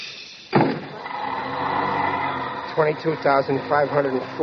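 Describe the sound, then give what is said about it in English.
A streetcar door shuts with a single sharp thud, followed by a steady mechanical hum and rumble; after a couple of seconds a person starts talking over the hum. “Watch the door.”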